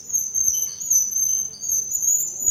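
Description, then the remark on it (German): A blackboard squeaks with a steady, piercing high-pitched whine that wavers slightly in pitch and runs unbroken for a few seconds over a faint low rumble, with no talking. “Das ist offensichtlich die quietschende Tafel hier.”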